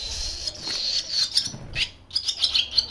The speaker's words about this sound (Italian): Esatto, questo è il canto di maschio di rondine. Ecco. Appoggiato sul filo.